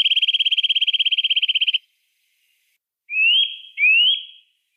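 songbird singing

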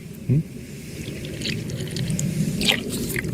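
drinking water

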